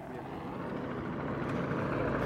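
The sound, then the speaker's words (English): A helicopter carrying a spotter drones steadily, a low continuous rumble with a faint pulsing edge that swells slightly louder toward the end. “I can hear the helicopter now too.”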